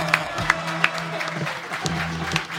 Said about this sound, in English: Mr. …, ladies and gentlemen. The great one. Holy cow! Wowee! Holy cow! …, standing ovation for …, I think.